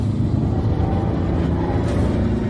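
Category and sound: vehicle, car driving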